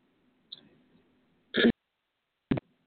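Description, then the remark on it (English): Two short, sharp throat-clearing coughs about a second apart, preceded by a faint, muffled catch in the throat from a stifled cough; no talking. “I'll throw up my cough in my throat here that I was stifling.”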